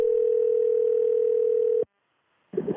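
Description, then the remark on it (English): A steady, unbroken telephone tone, heard while calling the speaker's aunt, hums at a single mid-low pitch for nearly two seconds, then cuts off abruptly into silence before a voice begins speaking. “I called her up to see if the storm named Sally annoyed her, but it didn't.”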